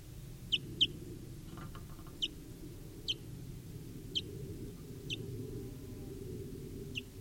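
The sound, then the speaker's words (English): A barely fledged wild baby bird, caught in a net and recorded at 10:09 a.m., gives short, high, thin chirps, repeated about every second, alone over a low steady rumble of background noise with no talking. “Baby bird here.”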